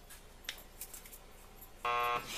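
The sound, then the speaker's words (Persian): A loud, steady electric buzz from an intercom doorbell sounds once for about a third of a second, harmonic and harsh, after a few faint clicks and rustles. “لطف کنیم اون دکمه آیفون رو بی زحمت فشار بدیم.”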